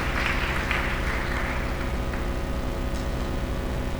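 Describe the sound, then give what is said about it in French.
Steady applause from an audience, a dense wash of many hands clapping at an even, fairly strong level for about four seconds, with no voices over it. “C'est marrant ce truc de se faire applaudir alors que c'est pas nous.”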